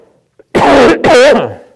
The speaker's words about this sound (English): Sorry about that. I'm learning how to cough into my elbow.